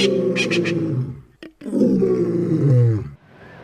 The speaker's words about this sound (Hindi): उन्हीं ख्वाबों में से एक ये भी था कि जिन बीहड़ों से बंदूकों की आवाज़ें आती थीं उन्हीं बीहड़ों में शेरों की दहाड़ सुनाई दे।